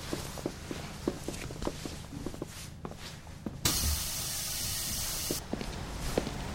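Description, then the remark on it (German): A bus comes to a stop and passengers step off: a run of scattered footsteps, a loud, steady pneumatic hiss lasting about two seconds, then more steps resuming. “Ah, der Bus hält. Wir müssen aussteigen.”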